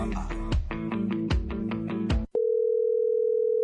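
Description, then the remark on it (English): A burst of rhythmic music with punchy beats cuts off abruptly, replaced by a steady, loud telephone tone humming on a single pitch as a call connects. “Why are you not picking up my phone?”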